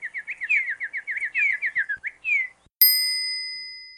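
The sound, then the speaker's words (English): A small pink bird chirps in a quick, busy run of high tweets for a couple of seconds, then a bright bell-like ding rings out and slowly fades. No one speaks. “A pink bird.”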